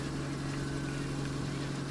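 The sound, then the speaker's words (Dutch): A ship's engine running outside drones steadily with a deep, continuous hum and a strong low tone, muffled and constant, heard from on board the ship, with no other sounds standing out. “We lopen nu naar de meshroom, dus het geluid zal wel ietsje zachter worden van de motor buiten.”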